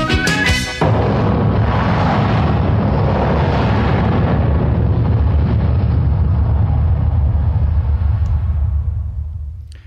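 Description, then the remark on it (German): A huge explosion erupts after a brief opening sound, followed by a long, dense rumbling roar that sustains loudly for several seconds before slowly fading out. No voices. “Da ist Europa explodiert, aber ein Berg mit seinen unbeugsamen kleinen Dörfern außenrum ist übrig geblieben, nämlich die Region Ochsenkopf.”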